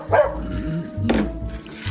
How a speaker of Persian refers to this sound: هاپ هاپ برو کنار ببینم، نکنه بازم با پاد زدی کاسه رو هل دادی پشت کمد